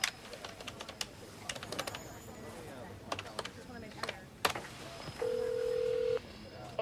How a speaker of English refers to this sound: Charles smiles wryly, then looks at the phone number on the Avery Price website. He considers for a moment, then picks up his telephone and dials.